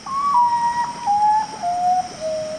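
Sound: common potoo call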